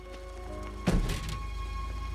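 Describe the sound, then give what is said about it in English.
A single solid car door thunk as a man gets out of a car at the roadside, landing near the middle, a short low-heavy impact that dies quickly against a steady background hum, with no voices. “She looks away sadly, then he gets out of the car.”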